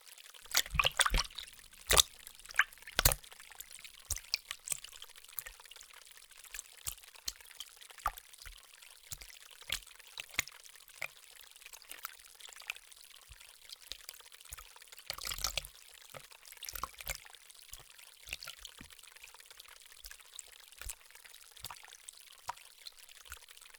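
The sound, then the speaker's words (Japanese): Water of a stream running through a room indoors flows and trickles steadily, with a broad hiss and frequent small splashes and bubbling pops scattered irregularly throughout, a few louder gurgles standing out, no voices. “ああ、ここは部屋の中に川が流れているのですよ。”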